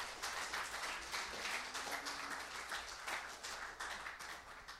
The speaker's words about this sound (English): You can clap for God. Give it up.